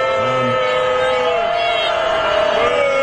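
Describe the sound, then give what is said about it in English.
A crowd at the annual congressional baseball game in Washington boos Joe Biden in a long, sustained, droning roar, with clapping mixed into the dense, steady noise for the full three seconds. “Okay, those are booed. Hannity's so desperate. They're mostly clapping.”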